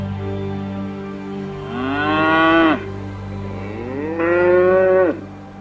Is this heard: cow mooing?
yes